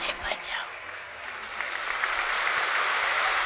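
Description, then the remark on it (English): A crowd claps steadily, a dense wash of many hands that swells slightly louder toward the end and continues without a break. “Yes, you can clap.”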